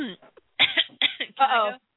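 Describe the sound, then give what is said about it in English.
A few rough coughs in quick succession, sharp bursts of breath and throat noise with short gaps between them, loud. “I actually did, and then I had to cough because I was.”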